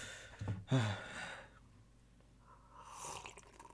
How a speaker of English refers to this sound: That was a really loud sip of the Arizona green tea there.